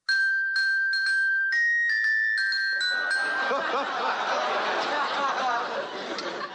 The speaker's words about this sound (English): I stand on the corner here and I ring my little bell. Listen.